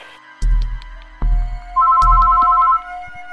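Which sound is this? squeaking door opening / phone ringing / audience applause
phone ringing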